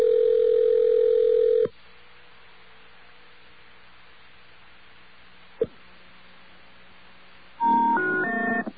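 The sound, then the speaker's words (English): A steady telephone tone cuts off into quiet line hiss and a single click, then a loud three-tone telephone error signal rises in short stepped beeps at the end. “I heard the three tones, I hung up right away.”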